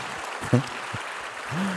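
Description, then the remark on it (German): Steady audience applause welcoming a candidate, a dense crackle of many hands clapping throughout, with a couple of brief voiced shouts or cheers rising out of it. “Da ist sie, ein Applaus.”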